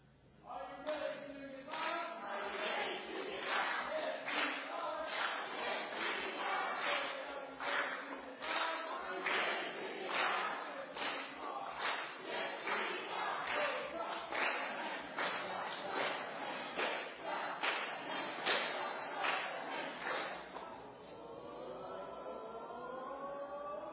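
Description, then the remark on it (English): The green team cheers together in a team cheer contest, loud and rhythmic, with a fast string of shouted, chant-like pulses for about twenty seconds before trailing off into a few drawn-out, wavering calls. “Let's go back to cheering.”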